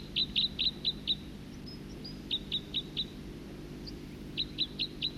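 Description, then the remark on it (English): A second bird, about 50 meters away, repeats quick, high chirping notes in three short bursts of four to six calls each, clear over a steady low background rumble, with no voices. “Second bird.”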